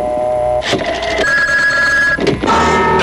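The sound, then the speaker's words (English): A telephone rings on an outgoing call for the WQAM Fortune Phone radio contest, heard through the line: a few loud, buzzy ring bursts with steady tones between them, and no one speaking. “Oops, I think I made it the wrong dialing there. Try it all over again.”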